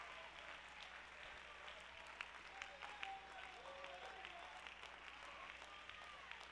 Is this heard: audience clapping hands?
yes